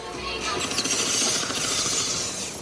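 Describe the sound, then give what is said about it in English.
Dense, steady traffic jam noise in Kampala, Uganda: a continuous wash of engine hum and mechanical rattling and clatter, fairly loud throughout, with no clear voices standing out. “Like so many homecomings in Africa, our journey begins with a traffic jam in some capital city.”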